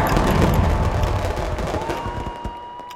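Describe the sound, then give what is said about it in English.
Dense, continuous crackling and popping bursts with deep booming rumble underneath, a New Year's fireworks barrage; a thin whistling tone rises through the second half as the barrage eases slightly. “We make sure we're aligned, take a deep breath, and then the fireworks start.”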